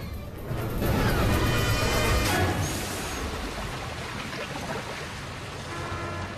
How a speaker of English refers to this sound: From above, it looks like a giant toilet, the liquid flushing them down a hole in the center of the room.